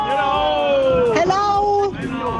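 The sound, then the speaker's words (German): A loud, dense carnival parade crowd in Gundelsheim cheers and whoops continuously in splendid carnival weather, with overlapping shouts and rising and falling sustained tones running through the steady hubbub. “Ihr hört die Stimmung hier in Gundelsheim bei wirklich kaiserlichem Faschingswetter.”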